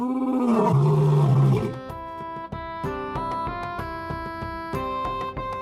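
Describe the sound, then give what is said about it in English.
A loud, deep monster roar bellows for nearly two seconds, then gives way to eerie music with sustained, ringing tones and occasional soft accents. “You hear the loud roar that you heard last time again.”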